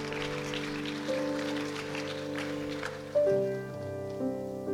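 An audience claps its hands in praise of Jesus in a dense, steady wash of applause, while sustained organ-like chords hold underneath and shift to a new chord partway through. No one speaks.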